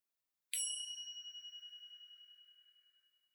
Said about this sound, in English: For the remainder of this segment, we invite you to continue mindfully eating until you hear the next chime.